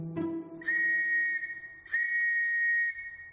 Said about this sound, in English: The catalog calls it the official whistle of the London police, made in England of nickel-plated brass, complete with piercing tone.